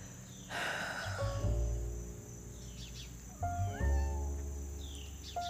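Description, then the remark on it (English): A cat gives two long, drawn-out meows, the second following a short pause, fairly loud. A steady high-pitched insect-like whine runs underneath, and a brief noisy rustle comes first. “all I want to do is hang out with my cats all day, right?”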